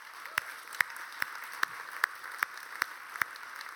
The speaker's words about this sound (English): So one more time, can we give them a massive round of applause?